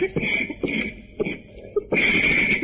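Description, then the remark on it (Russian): A recording of asthmatic wheezing: raspy, whistling dry wheezes repeat in short, uneven bursts with a thin high-pitched squeal running through each breath, fairly loud, with no talking. “Когда вот через треск послушаешь первый раз вот эту запись, эти хрипы, знаете, такие астматические, противные, может просто стошнить.”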